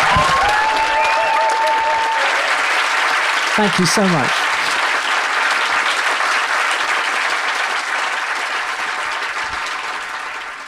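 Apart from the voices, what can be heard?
audience applause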